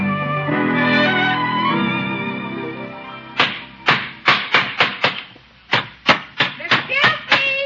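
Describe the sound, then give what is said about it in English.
A sustained tonal sound fades out, then sharp hammer blows ring out in a basement, where someone is building a little house for a puppy, in two quick runs of about a dozen strikes, each a loud, crisp bang in a steady, slightly uneven rhythm. “Is that you hammering away?”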